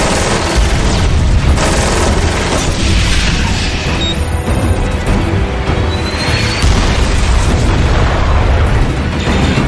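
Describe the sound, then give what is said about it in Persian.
A supersonic missile's impact explosion: a loud, sustained roaring blast with heavy low rumble and crackling noise that stays dense and steady for the whole stretch, with no voices. “موشک 5 داره با سرعت فراسو حرکت میکنه. آماده برخورد، آماده برخورد.”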